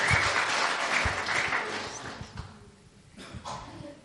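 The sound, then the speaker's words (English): A crowd applauds with dense, steady clapping that stays loud for a couple of seconds, then thins and fades to scattered claps near the end. “Come on, give her a hand.”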